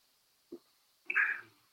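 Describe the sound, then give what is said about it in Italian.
A quick sip of water: a soft gulp followed by a brighter, breathy burst as the drink ends. Quiet in between, with no talking. “Aspettate che bevo un goccio d'acqua.”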